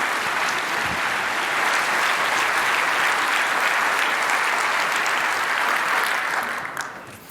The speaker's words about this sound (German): Und ich wünsche mir einen großen Applaus für Tim Philipp Schäfer.